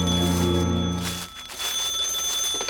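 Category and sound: signal or alarm, phone ringing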